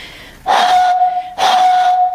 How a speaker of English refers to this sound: Instead of putting my finger around the bottle top, what I'm going to do, what most people would do when they play this, is blow across the top. So I'll just see if I can get a note.